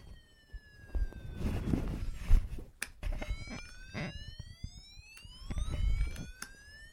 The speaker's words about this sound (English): So Fred gets in his fire engine and races home with the siren on